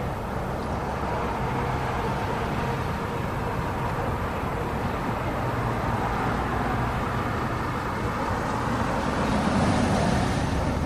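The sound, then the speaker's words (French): Steady roar of road traffic as cars and trucks pass along boulevard L'Or, a dense continuous rumble that swells slightly toward the end, with no one talking. “Même sur le boulevard L'Or, ici, il y a pas mal plus de voitures et de camions qu'il y en avait avant.”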